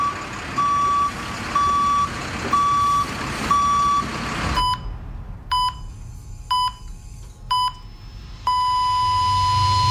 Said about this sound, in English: Every time a vehicle backs up on a construction site, there are risks.